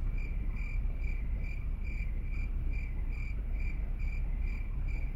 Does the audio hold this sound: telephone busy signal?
no